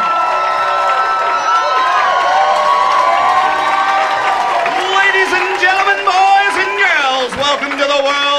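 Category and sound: crowd, audience applause and cheering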